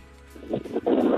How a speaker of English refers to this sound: Yes, I am in Pakistan at K2 base camp, enjoying the wonderful freezing cold windy weather. I can kind of hear some of that in the background.